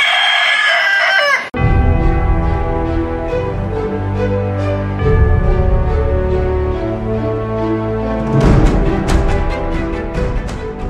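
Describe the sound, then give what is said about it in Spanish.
A rooster crows loudly at the very start, then it cuts off into a sustained, steady bed of harmonic sound that runs to the end, with no voices. “Un gallo sano.”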